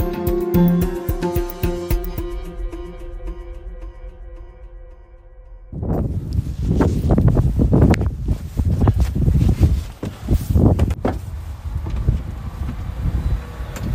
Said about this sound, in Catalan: Sortint de l'aeroport de la capital, Longyearbyen, el fred em deixa sense respiració. El fred acompanyat d'un vent que no deixarà de bufar durant les 24 hores que passo en aquesta illa.